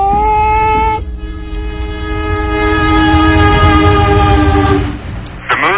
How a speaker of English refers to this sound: Aboard the Amtrak Freedom Train as it left the Oakland, California terminal, carrying some 75 lesbians and gay men to Sunday's National March on Washington for lesbian and gay rights.